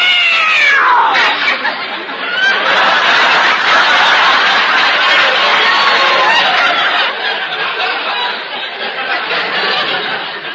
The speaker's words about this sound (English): Oh, it was the cat.